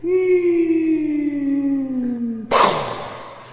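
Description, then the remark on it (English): A voice imitates an air raid siren from Japanese bombing raids on Calcutta during the Second World War: one long, steady wail that slowly slides lower in pitch over a couple of seconds, then breaks off into a sudden harsh, breathy burst. “And then the air raid siren went off.”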